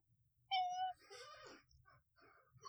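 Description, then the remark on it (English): A real cat named Can gives one drawn-out meow, starting with a steady pitch and then bending into a wavering, nasal cry before quieter voices murmur afterward. “That was actually a pretty spat on meow. I mean, because it was a real cat.”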